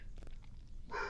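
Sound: dog barking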